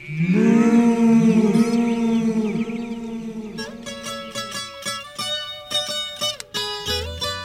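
A cow lets out a long, loud, low moo, then a string of shorter, fading repeats follows as the call echoes back across a valley. No one speaks.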